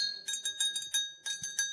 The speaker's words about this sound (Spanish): En otros sitios de Castilla usan una especie de esparto para tocarlo, o una esponja. Aquí se toca con la mano limpia, solamente con agua. El almirez está claro, pero vamos a darle un sonido, a ver.